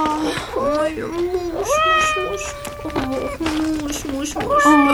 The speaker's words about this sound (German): Zwei Kätzchen hockten mitten auf der Straße und schrien. Sie miauten nicht, sie schrien.